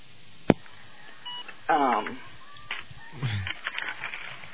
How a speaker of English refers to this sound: Yeah, my other phone was beeping.